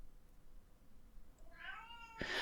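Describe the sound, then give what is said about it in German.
A hungry cat yowls insistently in a hallway, a drawn-out, rising wail with harmonic overtones, ending in a louder, harsher cry, with no talking. “Der Herr hat Hunger, aber der muss sich jetzt noch ein bisschen gedulden, also der jault jetzt gerade im Flur.”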